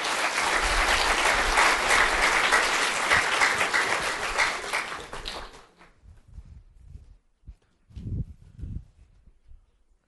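An audience claps steadily for about five and a half seconds to welcome a pastor who is about to preach, in a dense, loud burst of applause, then it stops abruptly, leaving faint shuffling and a few soft low sounds.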